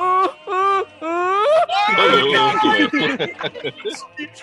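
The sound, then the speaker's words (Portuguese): A voice imitates a snoring man's moaning groans in short, drawn-out bursts that rise and waver, then breaks into laughter and chatter from several people. “Pra fechar com chave de ouro, tinha as gemidas parceladas.”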